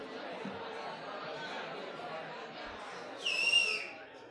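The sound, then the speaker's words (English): A sharp, loud whistle by a person cuts through murmuring crowd chatter near the end, sliding slightly downward in pitch before fading, at a creative writing program event at Florida State. “Excellent whistle.”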